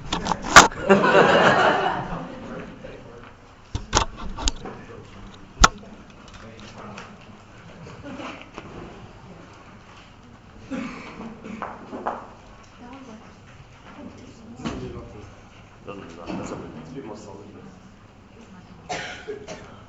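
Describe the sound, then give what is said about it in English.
Metal music stands are adjusted and handled, giving sporadic sharp clanks and rattles over a few seconds, with shuffling and faint background voices. “How good are these music stands? Not one of them works.”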